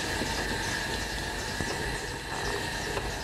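A potter's wheel in Valdemorillo spinning steadily, giving a continuous rumbling whir with a thin, constant high whine on top and a few faint clicks, with no one speaking.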